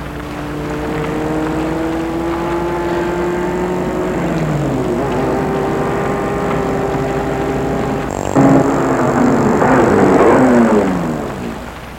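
vehicle, car passing

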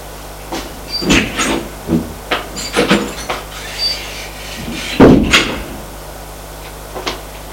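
household object, door being opened

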